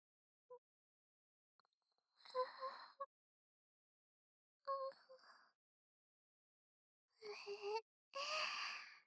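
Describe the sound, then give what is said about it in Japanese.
A still-sleepy young woman's breathy voice yawns in a few drawn-out bursts, with sighing, moan-like tones rising and trailing off between short pauses, growing longer and fuller toward the end. “まだ眠いね。あくびが出ちゃう。”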